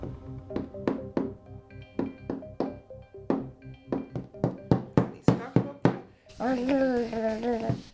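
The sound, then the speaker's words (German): A little girl knocks repeatedly with play dough, producing dull thunks in an uneven, accelerating rhythm for several seconds, then stops as a voice is heard talking. “In dem Moment tut sie klopfen und wahrscheinlich hat sie Freude am Klang, den sie jetzt da gerade erzeugt.”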